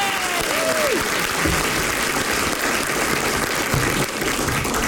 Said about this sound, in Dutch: En dan een applaus.